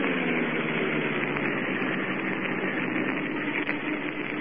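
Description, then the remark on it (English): A car engine hums in a steady, continuous drone as the car drives off the road toward the shore by moonlight without its lights on, with a dense rushing noise and no voices or other breaks throughout. “Guard must see car moving toward shore.”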